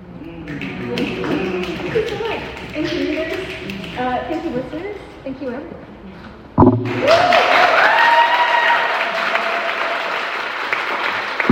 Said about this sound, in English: Clap it up, clap it up.